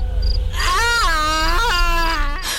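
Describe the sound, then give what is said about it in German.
A creepy, drawn-out scream rises in pitch, then holds as a loud, harsh wail with a yowling, almost cat-like quality, breaking briefly before trailing off. No one speaks. “Gruselige Schrei.”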